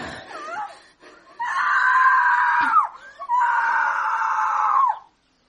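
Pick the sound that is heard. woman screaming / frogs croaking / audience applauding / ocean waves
woman screaming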